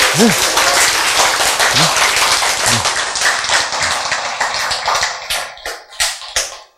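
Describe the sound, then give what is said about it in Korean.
A crowd claps together in a loud burst of applause that thins out toward the end into a few scattered claps, with a brief voice call or two at the start. “박수! 박수!”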